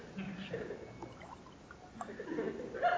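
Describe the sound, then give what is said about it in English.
Clean water pours into a glass in a steady, splashy stream, the pitch climbing as the glass fills toward the end. The sound is fairly quiet. “Oh, you want clean water? Okay, I got some clean water for you here.”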